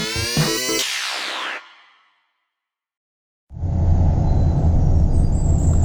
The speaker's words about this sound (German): Selbst wenn er noch im Auto mit seiner Mutter die schmale, ungepflasterte Landstraße hinauffuhr, konnte er schon die vertrauten Geräusche ausmachen.